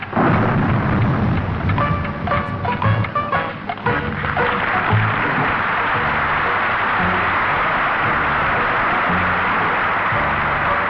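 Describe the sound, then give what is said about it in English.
A stormy downpour at a harbour pier: steady, loud rain hisses throughout while deep thunder rumbles roll underneath, with a brief whistling tone near the start. No one speaks. “Let's watch the rain come down the side of the pier.”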